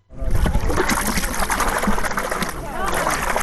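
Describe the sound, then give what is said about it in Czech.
Salty spring water from the ground trickles and splashes steadily into a bathing pool, a continuous gurgling with irregular spatters, while people's voices murmur over it. “Probaj voda. I ulijeva se u ovaj bazen.”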